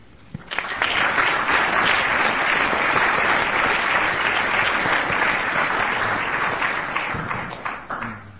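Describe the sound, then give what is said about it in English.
An enthusiastic audience claps steadily for several seconds, a dense, sustained wash of applause that swells quickly and begins tapering off near the end, applauding the introducer at a forum at Harvard Law School. “You can tell it's an enthusiastic crowd when the introducer gets an applause as well.”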